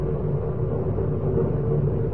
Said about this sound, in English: A storm hanging overhead, never breaking.